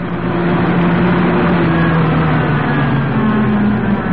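A hired car's engine runs with a loud, steady low rumble and droning hum as it pulls up and stops on a coast road about 3 miles from the main town, within sight of a castle on a cliff, with no voices over it.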